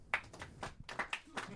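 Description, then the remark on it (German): Faint, sparse clapping from a small audience answering the question whether Tim Wiese has a future in wrestling, a handful of scattered hand claps at an uneven pace, dry and thin, with no voices over it. “Das ist das gleiche Phänomen, das wir vor ein paar Tagen schon festgestellt haben, dass die Leute ihre Klatschenergie so sparen.”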